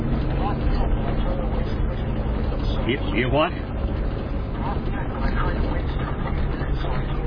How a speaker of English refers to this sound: Well, I'm out here by the drilling rig. I just wanted to come and watch it, and I'm recording it on video here.